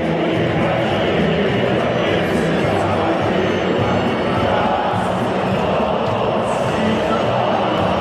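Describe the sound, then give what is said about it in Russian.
A huge stadium crowd sings together in a loud, continuous roar of massed voices, filling the space without pause for several seconds. “Кстати, эту песню частенько заряжают на стадионах.”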